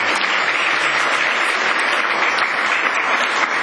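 Members of the Chuo Rotary Club applaud steadily to cheer on the incoming assistant governor after his greeting, a dense, even patter of many hands clapping at a constant loudness for a few seconds with no voices over it.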